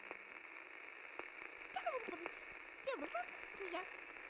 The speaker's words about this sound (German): Dass der Empfänger des Schiffes plötzlich Radiowellen registriert, die der Computer als Sprache identifiziert